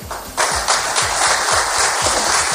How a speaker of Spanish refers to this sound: Bueno, pues 150 días después, quizás sea por las ganas que tenemos todos de ver algo de luz, de encontrar algún resquicio de esperanza, pero esta vez en vez de bombas, escucha estos aplausos.